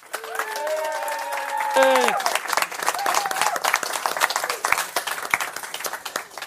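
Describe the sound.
An audience breaks into dense, sustained applause, many hands clapping steadily for several seconds, following a brief burst of voice-like tones at the start.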